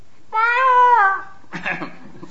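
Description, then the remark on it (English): A single loud, drawn-out peacock call, a bright nasal wail that slides slightly downward, followed by a short, rougher burst of noise. “The sa sound of the sa is the sound of a peacock.”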